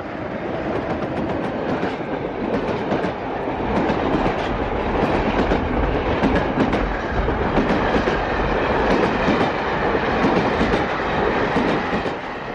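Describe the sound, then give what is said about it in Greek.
The 5 o'clock express train to Dublin passes, rumbling steadily along the rails, its broad, dense roar swelling slightly midway with faint clickety-clack rhythm from the wheels, sustained throughout. “Υπάρχει κάτι το θλιβερό στη βουή ενός τρένου που περνάει.”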